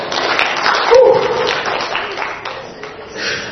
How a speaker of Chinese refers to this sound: 非常好吧，我们掌声荣耀归给神。